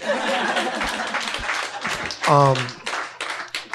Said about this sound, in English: I said clap, niggas.